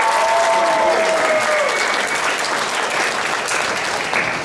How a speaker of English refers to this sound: All right, big round of applause